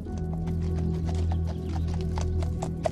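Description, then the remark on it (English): A horse on a farm in Iceland: hooves clop in a steady, fairly quick rhythm, moderately loud, over a constant low droning hum, with no one speaking. “horses are their pride and joy.”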